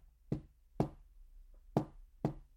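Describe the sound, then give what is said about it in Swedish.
Four sharp, heavy knocks on the outside wall of a cabin, arriving in two pairs with a short pause between them, solid against a quiet background. “Nu är knackningen ännu högre än innan.”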